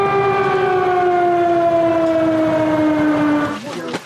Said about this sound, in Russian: Отсюда ходят эвакуационные поезда. На вокзале раздаются звуки воздушной тревоги.